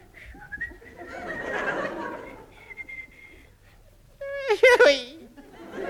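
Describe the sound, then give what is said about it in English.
A Boy Scout whistles a wavering, halting merry tune in short phrases, ending in a louder, warbling burst that sounds almost like a whinny; fairly clear, with no talking. “A Boy Scout keeps his spirits up by whistling the merry tune.”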